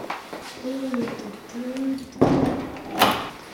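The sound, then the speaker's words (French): Keys and a door being opened: two drawn-out creaky squeaks, followed by a solid clunk and a bright metallic rattle, with no talking. “Les clés, ouvre la porte.”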